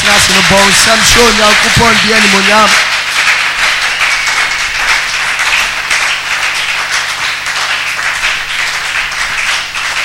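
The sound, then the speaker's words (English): A seated audience claps their hands to the glory of God in a dense, steady roar of applause that stays loud for the whole stretch, with a voice speaking over it during the first few seconds. “Now, as you are seated quietly, just clap your hands to the glory of God.”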